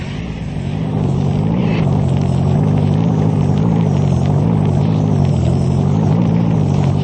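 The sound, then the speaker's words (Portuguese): A steady, loud engine drone with low rumbling harmonics holds for several seconds, like a car driving along at constant speed, with no voices. “Apanhei o carro de papai e vim para a certeza da aldeia.”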